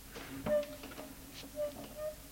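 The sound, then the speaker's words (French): A door opens: a sharp click from the latch, then a short, thin creak of the hinges. A few softer knocks and rattles follow. “Elle ouvre la porte.”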